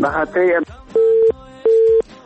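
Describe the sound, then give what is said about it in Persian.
A brief bit of voice, then two steady, evenly spaced beeps of a telephone line tone after a caller's phone call was cut off, each lasting about a third of a second with a short gap between them, clear and fairly loud. “متاسفانه که تماس برادر ما قطع شد، میخواستن شماری خود اعلان بکنن اما تماسشان قطع شد.”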